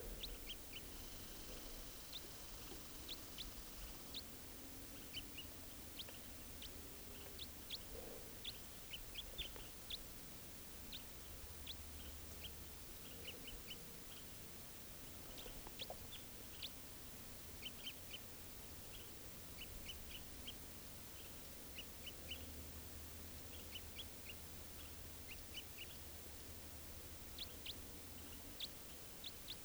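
bird, wild bird flight calls

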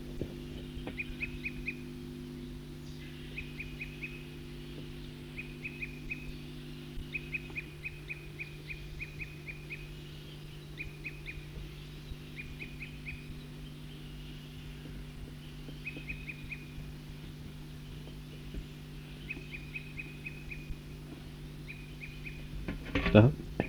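bird, bird calling outdoors

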